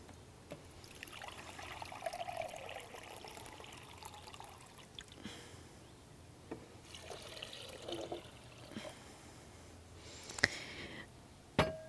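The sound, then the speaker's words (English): About 2 cups of water pour steadily into a container for making soursop juice, a continuous splashing and gurgling stream with a few sharp clinks and knocks near the end, no one speaking. “So we're going to use about 2 cups of water in this.”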